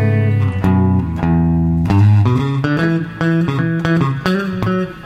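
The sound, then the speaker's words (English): A clean electric guitar played through a Quilter Direct plays a steady run of plucked notes and chords with a touch of reverb, moderately loud with no voices, the sustained notes ringing briefly between attacks. “So this is clean. There's a little bit of reverb on it.”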